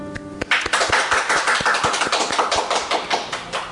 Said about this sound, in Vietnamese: Thưa anh chị em và các bạn, chúng ta cùng vỗ một tràng pháo tay để kết thúc năm cũ.